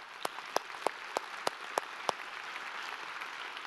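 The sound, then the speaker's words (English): Audience applause: a steady hiss of clapping with seven sharp, evenly spaced claps standing out over the first two seconds, then a softer wash of applause continuing. No one speaks. “And when that happens, yeah, y'all can applaud.”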